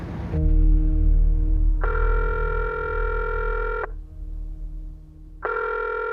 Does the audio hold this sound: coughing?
no